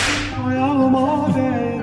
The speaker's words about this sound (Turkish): Kamçı?